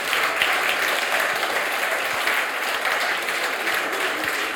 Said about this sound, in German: Ja, das ist wirklich ein Applaus wert.